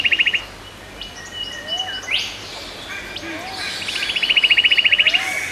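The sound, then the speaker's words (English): Rapid, high piping trills from a white-throated treecreeper burst out at the start and again near the end, over a busy chorus of bird calls with faint, low gurgling notes from a Wampu fruit dove. “So first of all, I heard two doves, a peaceful dove, and then a Wampu fruit dove started gurgling away. Interspersed with them was the piping of a white-throated tree creeper.”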